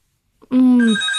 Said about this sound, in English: Hang on, I'm getting a phone call. Hang on a second.